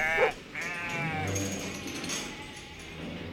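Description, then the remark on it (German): Sheep on a farm bleat in a wavering, quavering call that stretches across most of the moment, with a short sharper cry at the start and no voices. “Geh, schau runter zu den Händlern, zu den Schaf, ob da vielleicht auch was passiert ist.”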